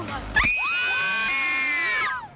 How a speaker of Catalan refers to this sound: I d'altres a fora, doncs, esperant, patint una mica, perquè aquí, sobretot, el que hi ha són noies cridaneres i cantants. Que t'agraden a tu. I ara un crit de fan, rotllo.